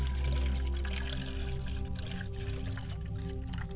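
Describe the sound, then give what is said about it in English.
Water is poured onto the ground as a libation in one steady, unbroken stream for a few seconds, a soft continuous trickle over a low resonant hum, with no one speaking. “We pour libations to the ground, ladies and gentlemen.”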